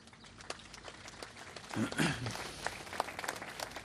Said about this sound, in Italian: I think we should say a big thank you to whom has accepted this challenge here in Malta and gave life to this center. Let us do this by an applause.